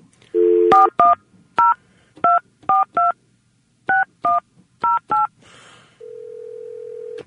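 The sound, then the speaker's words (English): Touch-tone telephone dialing a sporting goods store's 24-hour fishing hotline: a brief dial tone, then ten crisp keypad beeps in uneven bursts, followed by a steady, continuous line tone at the end. No voices are heard. “Maybe we'll call Clyde Sports up and get their 24-hour fishing hotline report here this hour.”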